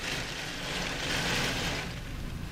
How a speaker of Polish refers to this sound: Jest sztorm, no ta zmienność islandzkiej pogody i dudni. Grad. I to potężny w tej chwili.